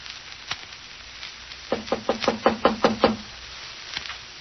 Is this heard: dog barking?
no